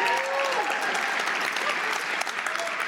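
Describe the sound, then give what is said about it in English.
A crowd applauds steadily, a dense wash of clapping that holds at an even level throughout, with a faint whistle or cheer rising briefly near the start. “And those of you who didn't applaud, unless you're a vegetarian, you fucking go there.”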